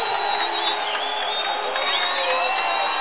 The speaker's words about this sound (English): When that happens, this crowd's going to get louder than the band ever was. And there they go.